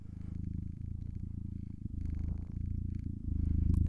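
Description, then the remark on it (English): A man imitates a cat's purr while stroking his beard, a steady, low rumbling vibration with a fast pulsing texture that keeps going for several seconds and swells slightly louder toward the end. “Yeah, I'm stroking my beard and purring.”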